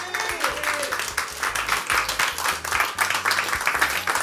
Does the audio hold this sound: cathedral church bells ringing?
no